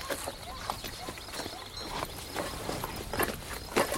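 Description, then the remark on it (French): Hooves clip-clop steadily as horses walk, their uneven, overlapping hoofbeats forming a continuous moderate patter with a few louder knocks near the end. “Venez, nous allons faire reposer les chevaux.”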